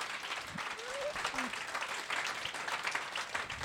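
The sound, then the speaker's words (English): An audience at an evening talk claps steadily for a speaker for several seconds, a dense, even wash of hand claps at a moderate level, with a faint whistle or cheer rising briefly partway through. “You give him a round of applause.”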